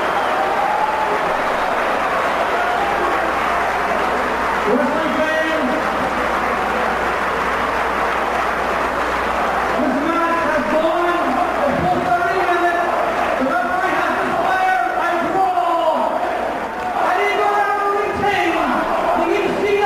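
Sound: wrestling arena crowd cheering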